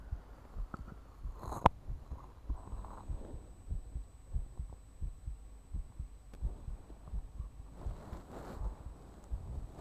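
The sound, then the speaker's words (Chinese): A steady human heartbeat thumps, deep and muffled, repeating in a regular lub-dub rhythm with soft rustling and faint contact noises around it, as someone listens to it. “听听我的心跳。”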